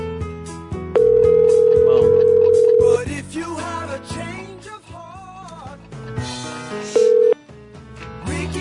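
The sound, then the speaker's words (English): A steady, mid-pitched electronic telephone ring tone sounds for about two seconds as the call goes unanswered, then a voice with music carries on before a second, shorter ring cuts in. “Every ring he doesn't answer, he loses.”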